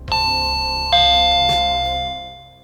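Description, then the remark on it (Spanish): A doorbell rings at the front door as a package is being delivered, with a classic two-tone ding-dong: a higher chime followed by a lower one, clear and loud, the second tone sustaining and fading out. No one speaks over it. “espera un momentito que tengo que ir a recoger un paquete a la puerta, ¿vale?”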